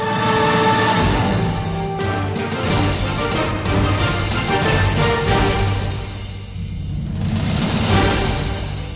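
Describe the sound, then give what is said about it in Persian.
A dense chorus of car horns honks continuously and loudly, many overlapping blasts blending into a sustained blaring wall of sound, briefly easing before swelling again, then gradually fading. “صدای بوق ماشین ها رفته رفته کم می شود.”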